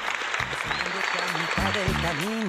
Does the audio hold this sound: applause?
yes